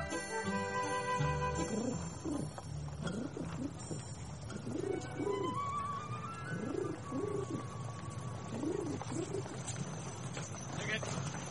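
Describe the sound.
Percy Edwards imitates a pigeon's soft, throaty cooing in the radio play A Bird in the Hand by Michael Sharp, repeating the rolling coos several times over a low, steady background rumble.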